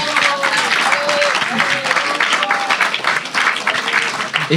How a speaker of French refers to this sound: Non, le... ouais, c'est très bien, on peut l'applaudir.